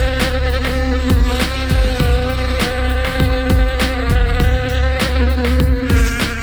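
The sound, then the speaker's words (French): A voice imitates a fly's buzz as a continuous, loud drone, layered over rhythmic music with steady percussive beats throughout. “Fais-moi la mouche. Oh oui, fais-moi la mouche.”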